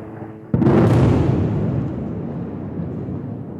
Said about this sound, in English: those booms you feel in your bones, the energy from the strike you feel on your skin.